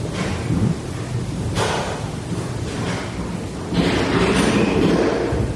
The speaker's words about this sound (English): And it sounds like doors are shutting and cupboards are shutting and people are stomping. I don't know what all that is.